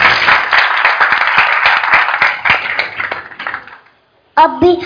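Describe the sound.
A group claps together in a dense burst of applause for a child at a children's satsang gathering; the applause thins out and fades over a few seconds, followed by a brief silence before a voice begins speaking.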